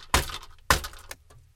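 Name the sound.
knocking on a door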